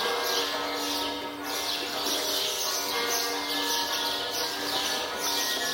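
Birds sing continuously in a steady, dense chorus, their high chirps and calls layered into an even, moderately loud wash of birdsong with no voices present.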